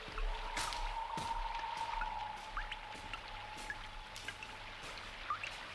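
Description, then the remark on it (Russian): Steady rain patters down with scattered drips splashing in the gateway of a Moscow building, a continuous wet hiss filling the background. No one speaks. “Вот эти два человека неожиданно встретились во время дождя в подворотне московского дома.”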